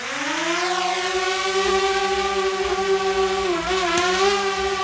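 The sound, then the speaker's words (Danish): A flying drone buzzes with a loud, steady, high-pitched whine, rich in overtones. Its pitch holds level, dipping briefly and rising again near the end, with no voices. “Og så skal vi lige have lyden af en, og det kommer der en forklaring på, flyvende drone.”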